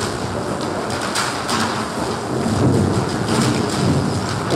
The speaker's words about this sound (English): It's the crashing and grinding of the giant tunneling machine known as Bertha. Today, it dug its way back into the daylight after a 2-mile-long trip under the city's downtown.